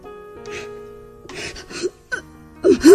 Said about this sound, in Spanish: … está llorando junto al teléfono.